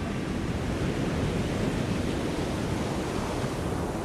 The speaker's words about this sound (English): Imagine a line of brown pelicans flying just above the breaking surf of the coast.